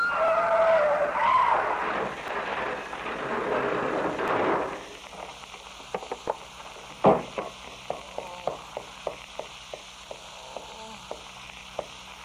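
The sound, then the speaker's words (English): A car skids loudly and harshly at night for several seconds in an accident, cuts off abruptly, then a thud and a scattering of small clicks and debris taps follow in the quieter aftermath. “What's another car doing out this time of night? Get out of my way. Watch out!”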